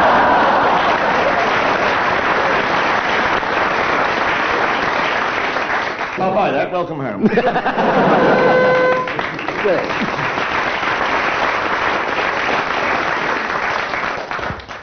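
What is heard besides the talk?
studio audience applause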